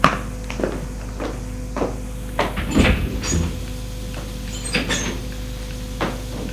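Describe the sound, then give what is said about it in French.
A woman opens a small glass door in a hallway, with a handful of light clicks and knocks and a brief rattling clatter partway through, fairly quiet over a steady low hum, with no one speaking. “Elle a ouvert une petite porte vitrée du couloir.”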